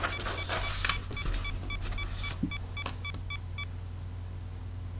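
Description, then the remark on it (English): A phone camera shutter clicks amid some rustling as a document page on a document stand is photographed, followed by a steady run of short, high electronic movement-detection beeps as the page is turned, moderately loud, with no one talking. “Okay, camera sound, turn page. Movement detected, beeps, hand away, fingers at bottom.”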